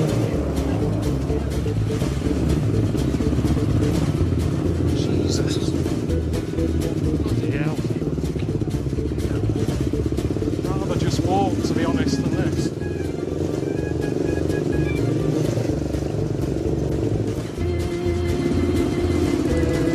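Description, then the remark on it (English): A motorbike engine, a local man coming to pick someone up, runs loudly and steadily for the whole stretch, its low throaty rumble with people's voices faintly mixed in over the top. “He's going to pick me up on his motorbike.”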